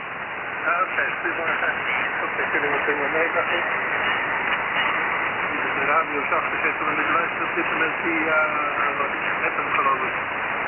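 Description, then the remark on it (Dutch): Steady hiss of amateur radio static and interference fills the whole stretch, band-limited and crackly, with faint garbled voice-like fragments warbling through the interference at a constant moderate level. “Door de ruis, en ik heb net een staartje gehoord, gedeeltelijk, van het geluid van de storing.”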